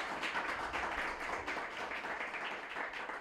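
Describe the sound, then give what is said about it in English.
A crowd applauds to welcome speakers, including one with 15 years at federally qualified health clinics, with steady, dense clapping that holds at an even, fairly loud level for a few seconds, with no voices heard. “So let's give them a big round of applause and welcome.”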